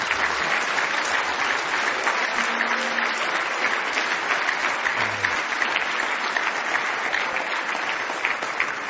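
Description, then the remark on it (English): An audience bursts into sustained applause, giving the Lord a great big hand clap, a dense, steady wash of many hands clapping at once for the full stretch, fairly loud and even without pauses or talk. “Would y'all give the Lord a great big hand clap?”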